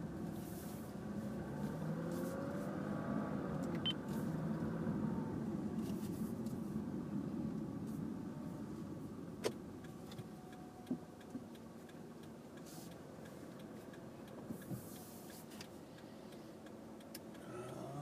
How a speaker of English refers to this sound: Hello. I'm driving a car. Isn't that weird? Who does that?